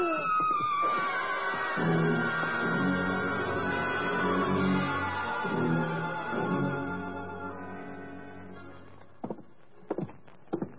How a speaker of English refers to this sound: That was a woman screaming, Louis. Maybe it was a ghost. Ghosts aren't supposed to scream.